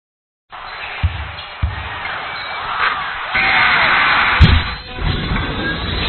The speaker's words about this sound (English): The squeak of the sneakers, the swish of the nets, bounce of the ball, and amped up crowd can only mean one thing. It's time for high school basketball on 92.1 KMGA. Day 5 of the Twin Valley League basketball tournament is underway here in Onega.